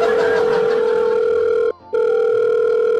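A loud, steady electronic telephone ring sounds with no one talking. It holds one shrill pitch and cuts out once, briefly, before carrying on.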